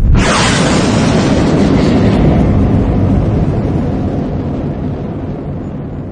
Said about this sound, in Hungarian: Az űrhajó motorjai berregve ébredeznek, és amint Emin és csapata bekapcsolják, hatalmas erővel röpíti őket kifelé a világűrbe.